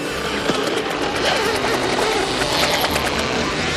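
A vacuum cleaner from the A1 Vacuum Cleaner Company of Baltimore, being demonstrated by a salesman, runs with a loud, steady roar and a whirring motor whine that holds constant throughout, with no talking.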